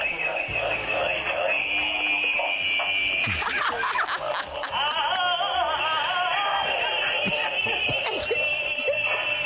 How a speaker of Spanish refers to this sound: A ver, esto es lo que suena en mi móvil cuando me llaman.